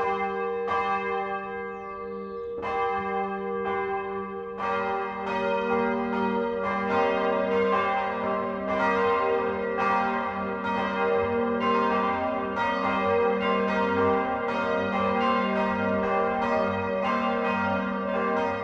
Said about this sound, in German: Es ist 12 Uhr. Das Mittagsläuten kommt heute aus Petersbuch im Landkreis Eichstätt.